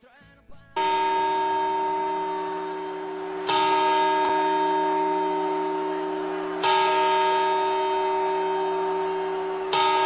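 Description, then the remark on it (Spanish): A clock bell strikes four times on New Year's Eve, 31 December, at a slow, even pace about three seconds apart, each loud, metallic toll ringing out and overlapping the next. No one speaks. “Bueno, pues como les vengo repitiendo, hoy vamos a escuchar muchas campanadas.”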